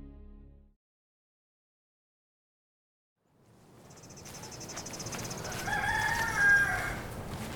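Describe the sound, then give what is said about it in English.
After a brief silence, steady outdoor farm ambience fades in with high insect chirping on a cold, clear early morning on a trail behind a farmhouse past a chicken coop, and a rooster crows once near the end. “down a trail that goes past the chicken coop I used to clean and collect eggs from.”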